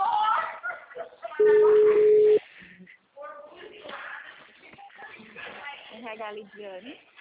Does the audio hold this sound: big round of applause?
no